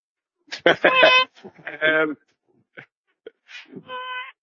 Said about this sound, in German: ich höre irgendwie, ich weiß nicht, auf welche Katze ich getreten bin, aber... Meine Katze, ja. Okay. Ja. hört die meine Stimme, weißt du, fängt sie gleich an zu heulen und rennt davon.